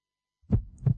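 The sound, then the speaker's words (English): A deep heartbeat thumps twice, a lub-dub pair near the start and another just before the end, low with a soft muffled body beneath, no voices. “Every journey starts with a heartbeat.”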